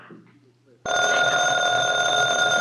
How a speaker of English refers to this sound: The phone. I'm not going to answer.